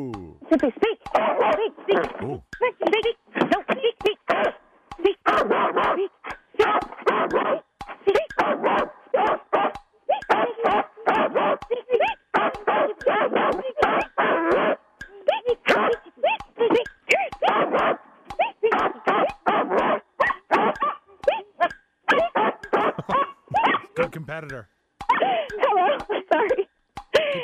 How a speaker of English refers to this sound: Okay. You are out of time. How many barks was that